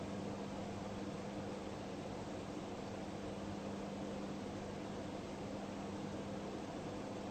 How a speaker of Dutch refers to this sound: Wanneer je in het lichaam zit, dan zeg je, ik hoor hier het geluid van de ventilator. Wanneer je meer op dat reflexieve standpunt staat, dan ben je bewust dat je dat geluid hoort.